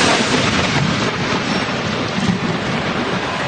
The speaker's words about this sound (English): They're in the dugout by the time the thunder is over.